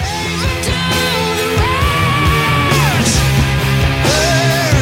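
A rock singer belts a sustained, high-pitched screaming note, a high D, that bends and holds over loud, dense band backing of distorted guitars and drums, with the voice soaring in long wails.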